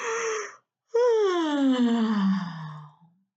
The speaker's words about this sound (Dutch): En als je het water uit bent, dan sper je je mond heel ver open en je laat een flinke geeuw.